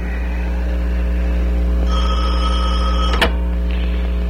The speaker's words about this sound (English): That was our nurse's aide calling from the hospital.